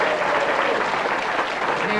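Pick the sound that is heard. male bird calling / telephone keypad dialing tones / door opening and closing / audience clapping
audience clapping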